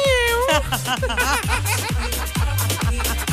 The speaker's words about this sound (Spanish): Sí, sonaba un gatito como. como que no sé, escuchaba un gatito yo. Así, grrr.